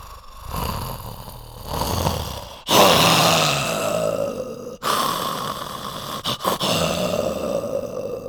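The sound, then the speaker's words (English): A puppeteer vocalizes the stage tiger Richard Parker, producing rough, breathy growls and snarls in several sustained bursts with brief pauses, fairly loud, with no speech. “But human vocal cords and chest cavities don't deliver the menacing resonance of a real tiger's roars.”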